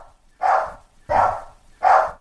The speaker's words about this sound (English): Oh, no. Bear's starting to bark. Right as ENN starts. Bear, don't do that.